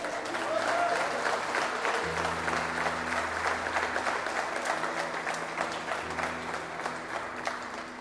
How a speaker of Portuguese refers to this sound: Aplauda Ele, queridos.